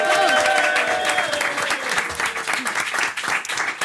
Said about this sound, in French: Applaudissez Antoinette Collin et Tania Dutel.